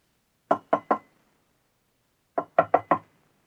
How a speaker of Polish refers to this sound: Dwie godziny po północy Gladys usłyszała ciche pukanie do drzwi.